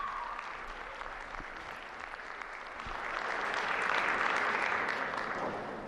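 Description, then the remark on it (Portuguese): Sustained applause from a large audience of faithful and pilgrims fills the big, reverberant Paul VI Hall as Pope Francis enters for the Wednesday general audience, a dense wash of clapping that swells louder midway and continues steadily throughout, with no talking. “Neste momento, o Papa Francisco entra na grande Sala Paulo VI, sendo recebido pelo aplauso dos fiéis e peregrinos.”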